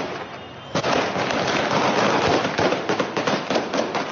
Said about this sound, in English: Video footage later showed the Taliban firing into the air and attacking people with batons to disperse the crowd.